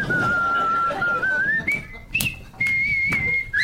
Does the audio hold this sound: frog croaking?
no